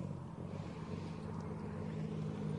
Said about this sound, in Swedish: Nästa bil är på gång in redan nu.